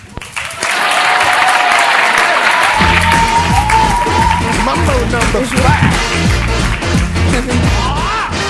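A talk show audience breaks into loud, sustained applause to welcome the first guest, a dense steady clatter of many hands clapping, with upbeat music and a rhythmic bass line joining in underneath after a few seconds.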